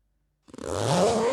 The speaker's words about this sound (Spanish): La cremallera hace zip.